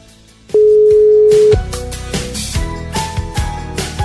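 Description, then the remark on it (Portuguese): A single steady telephone ringback tone, from a call placed from a radio studio to a listener, sounds for about a second, loud and clear, then gives way to busier background music-like sound with no answer. “que não atende o telefone.”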